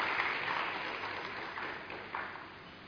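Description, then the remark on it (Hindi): A crowd claps steadily for singers after their song at a stage event, a dense wash of applause sustained throughout at moderate volume, with no voices rising above it. “ये बधाई का गीत आपने गाया है, बहुत सुंदर, जोरदार एक बार इनके लिए तालियां बजाएंगे।”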